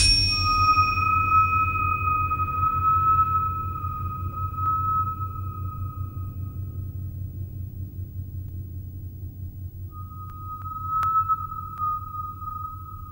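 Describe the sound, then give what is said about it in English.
Bell-like ringing tones and a high, steady whistling pitch sustain over a deep, rumbling orchestral drone, fading mid-way before a clear ringing tone returns near the end. No voices. “And some bells and whistles.”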